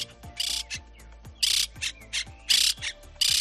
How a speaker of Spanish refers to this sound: ¿Lo identificas? Sí, es el canto de la cotorra. Bueno, no sé si las argentinas tienen un acento más quedo, más arrastrado, pero lo cierto es que esta especie, considerada invasora, está proliferando en la ciudad de Guadalajara.